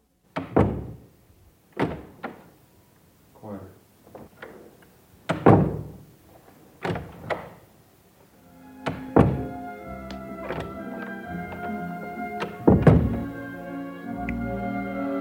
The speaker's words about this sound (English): Murch recorded all the doors in director Francis Ford Coppola's house, listening for the door slam that would have the sound of betrayal